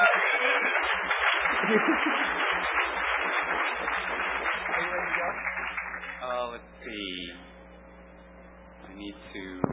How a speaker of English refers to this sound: You have an awesome resume, and I love your hair. Give him a round of applause just for his hair.